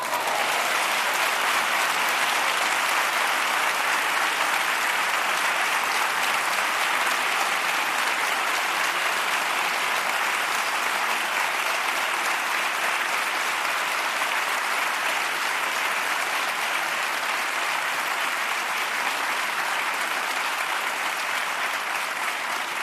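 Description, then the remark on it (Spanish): Sustained audience applause fills the whole stretch, a dense, steady wash of many hands clapping at a constant loudness without letting up, with no voices rising above it. “Y este aplauso que suba hasta el cielo para ti, Juan Martínez Cerrillo.”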